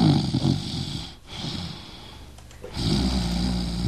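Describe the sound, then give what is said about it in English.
Loud snoring with a rough, rattling inhale, a brief pause in the middle, then another heavy snore rumbling back in. No talking. “Hey, quit that snoring.”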